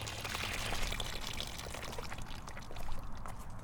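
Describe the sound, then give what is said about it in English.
Water pours steadily from a bucket and splashes through a fine little aquarium net to capture the bugs in the water, a continuous rushing, gurgling flow that swells slightly near the end and never pauses. “simple procedure, but what I'm gonna just do here is pour this bucket through this fine little aquarium net, making sure I capture all the bugs that are in the water.”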